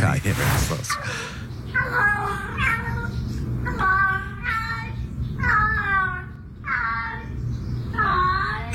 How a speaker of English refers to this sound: has sent me a cat with an Australian accent. It gets better as you get into this. It starts to sound more Australian as you go.